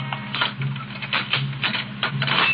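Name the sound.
footsteps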